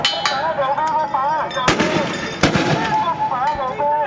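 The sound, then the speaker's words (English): Pro-democracy protesters clash with police in Hong Kong in the 17th week of demonstrations, amid a din of raised, wavering voices, punctured by several sharp, loud gunfire-like blasts at irregular intervals, two especially heavy bangs standing out above the crowd noise. “We will hear the protesters confronting police now.”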